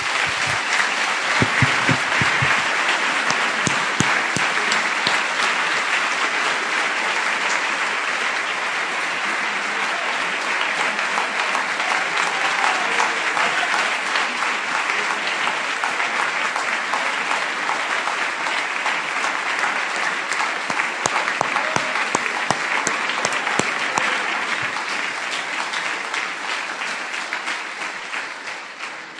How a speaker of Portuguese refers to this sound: Você está contente, meu irmão? Aplauda o Senhor, então, que é Ele que manda.